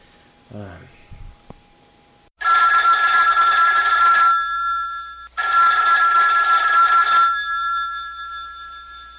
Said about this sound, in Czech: No, podívej se, zvonek.